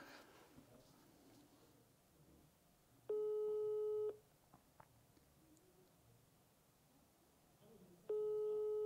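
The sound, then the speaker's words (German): A telephone ringback tone on a call to a sales lead repeats unanswered: two steady, buzzy one-second tones spaced several seconds apart, with only faint background noise and a couple of soft clicks between them. “Okay, zweimal, das hat jetzt zu lange geklingelt.”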